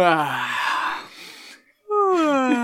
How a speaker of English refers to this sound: At the beginning, Captain Freeman is doing, like, this presentation with a guest, and Mariner keeps yawning because the guest is so boring.